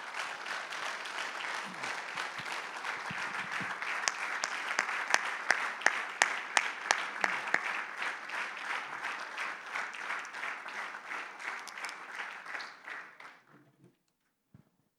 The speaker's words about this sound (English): And can we give, once again, our first responders a hand clap and thankfulness for all of their service to the community that they serve.